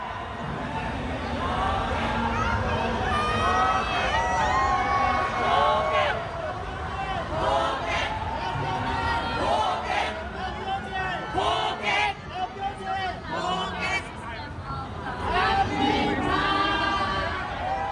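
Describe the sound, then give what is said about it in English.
A large outdoor crowd of thousands of rainbow-clad marchers at an LGBTQ pride parade in Bangkok, Thailand, dancing and chanting 'marriage equality right now', loud and sustained throughout, with a dense wash of overlapping cheers and calls. “Thousands of rainbow-clad marchers danced and chanted, marriage equality right now.”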